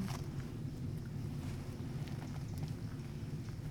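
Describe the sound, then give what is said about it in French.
Tree leaves rustle steadily in a gusting wind, a continuous hissing wash over a low blustery rumble, with brief brighter flurries as the gusts pick up. No voices. “Au moindre coup de vent, je sais pas si ça vous l'a déjà fait, ouais. Mais on l'entend vraiment comme si on secouait des draps.”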